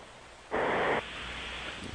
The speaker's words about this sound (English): That's the strangest snoring. That's snoring. That's bizarre snoring. Yeah. It's like the space shuttle trying to steer itself.